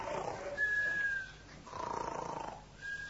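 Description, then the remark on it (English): Someone snoring from inside a filing cabinet drawer in a records office, in steady, rasping breaths, each long rumbling inhale trailed by a thin whistling tone, repeating about three times at a moderate volume with no talking. “I thought I heard someone snoring. Seemed to come from this filing cabinet.”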